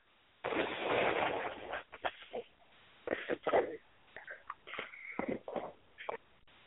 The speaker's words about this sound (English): Okay, sorry about that. I had to blow my nose.